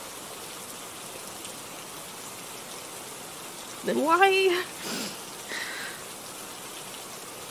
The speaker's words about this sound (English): I'm not even crying. It's just the rain.